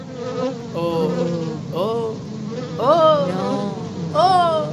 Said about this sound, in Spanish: Es la abeja, ¿no?